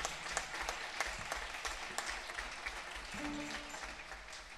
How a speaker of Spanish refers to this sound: un fuerte aplauso.